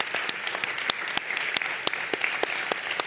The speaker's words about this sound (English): Let's give a round of applause for DJ. Thank you so much. Thank you.